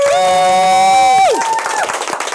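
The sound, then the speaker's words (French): A crowd cheers and applauds for the first broadcast of a radio show. A long sustained, tonal cheer swoops downward, then gives way to a loud, steady wash of clapping and scattered shouts. “Voilà, et on veut un grand applaudissement pour la première.”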